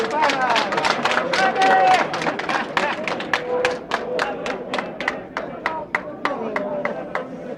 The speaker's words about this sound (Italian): un applauso, grazie.